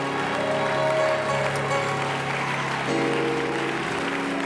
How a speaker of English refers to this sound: Now, if he's never done anything for you, don't clap. But if he's done something for you, you ought to clap your hands. And you ought to get your mouth open when you do that. Because the Bible tells us to clap our hands unto the Lord and to shout.